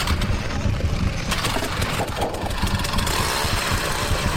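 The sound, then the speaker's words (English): A power ice auger's small engine runs steadily at a constant, buzzy drone with a rough low rumble as it drills through a hole in an ice-house floor down into the ice, staying loud throughout with no pauses and no voices. “I grabbed my power out from the corner.”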